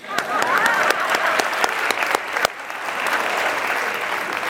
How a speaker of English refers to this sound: Raise your hands. Let's clap it up for these 11 people.